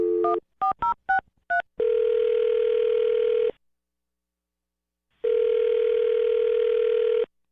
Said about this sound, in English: I'm going to dial his phone right now and see if we can get him on the phone